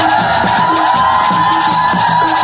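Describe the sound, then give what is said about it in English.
A jubilant crowd at Yaoundé Nsimalen International Airport, Cameroon, cheers and shouts in welcome as the convoy of Philemon Yang, new president of the 79th UN General Assembly, arrives: a dense, continuous roar with high whoops and voices layered over a steady wash of noise, loud throughout. “The convoy arrives after about an hour's stay at the Yaoundé Simalén International Airport and is welcomed by a jubilant crowd.”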